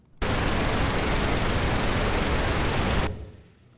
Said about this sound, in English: And so we have a couple different colors of sound that we use. First, I'll let you hear pink noise.